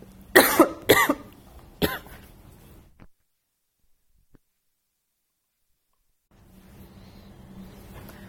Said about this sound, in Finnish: Alko tässä yskittää ja huomaa, että se on semmoista kuivaa yskää, mikä ei sitten lopu, jos ei sitä vettä juo.